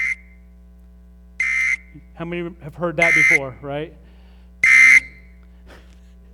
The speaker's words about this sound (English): And when these happen in various parts of the country, the National Weather Service sends out alerts and watches and advisories and warnings, right? Now, if I'm driving in my car, I will hear this, right?